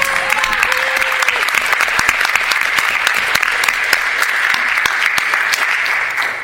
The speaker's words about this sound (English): They're working really, really hard, so I'd like to give them all a round of applause for making our experience.